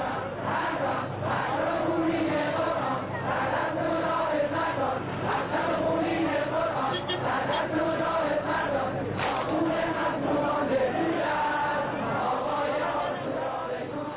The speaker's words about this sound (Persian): هر چند دقیقه یک بار شعارها عوض می شود و صدای جمعیت بالاتر می رود. مردم تا عوض شدن شعار، فریاد مرگ بر شاه و درود بر خمینی سر می دهند.